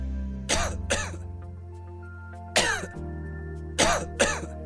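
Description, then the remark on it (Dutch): Dry, hacking coughs come in pairs, two quick bursts, a single one, then two more, fairly loud, over a low steady hum with no talking. “Keelpijn, droge hoest, Activox verzacht de keel en helpt de irritatie te kalmeren vanaf de eerste prikkel.”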